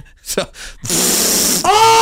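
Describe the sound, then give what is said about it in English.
A voice makes a mouth fart: a couple of short breathy puffs, then a long buzzy raspberry that shifts into a rougher, tonal sputter at the end. There is no talking. “Why don't you show us fart again?”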